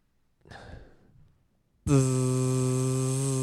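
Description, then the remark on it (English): A door entry buzzer sounds with a loud, harsh, steady buzz that starts abruptly and holds unbroken to the end, after a soft breathy exhale. “You have to buzz me in.”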